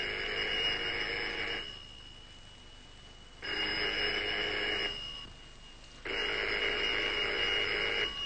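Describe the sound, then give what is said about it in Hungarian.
A telephone rings three times, each long electronic trill separated by a short pause of silence. The ringing is clear, with no voices. “Csöcsög már ez az átkozott telefon!”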